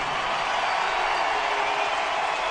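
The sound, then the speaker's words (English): A large ballpark crowd at Coors Field stands in an ovation, roaring and applauding in a steady, dense wash of cheering and clapping that holds at full volume throughout, with no break and no voices standing out, as a returning former player waves to the crowd. “they're standing at Coors Field as Tulowitzki waves to the crowd and his teammates”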